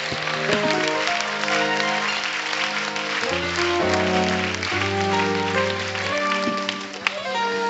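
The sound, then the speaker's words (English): A church audience claps steadily and enthusiastically in praise of the Lord, dense, continuous applause filling the room, with sustained organ chords shifting underneath throughout. “Let's all give the Lord a hand clap of praise.”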